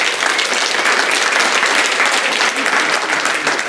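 Steady audience applause fills the room, a dense wash of many hands clapping at an even, loud level for several seconds without a break.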